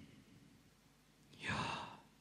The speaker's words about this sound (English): They actually considered them unpronounceable because they were never supposed to be pronounced in the first place, that they were essentially the sound of breathing. Breathing in and breathing out.